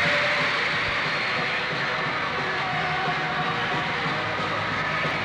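A huge crowd screams without pause, a dense, high-pitched wall of shrieking voices that stays loud and steady throughout with no break or single voice standing out.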